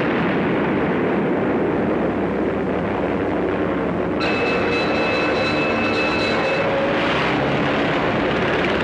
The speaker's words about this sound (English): The unknown aircraft passed over Sea Beach and dropped bombs.